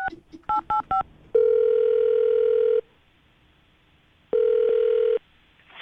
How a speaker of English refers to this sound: All right. I'm going to dial the phone number right now and see if we can get her on the phone.